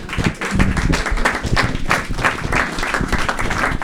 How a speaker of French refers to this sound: Au nom de la municipalité de Saint-Paul-Lacoste, merci beaucoup. On peut vous applaudir encore.